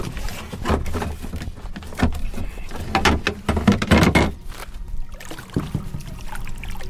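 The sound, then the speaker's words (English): A kayak scrapes and knocks as it slides into the water, followed by paddle splashes and gentle trickling, with irregular bumps and thuds and no talking. “All right, let's get going, get you on the water.”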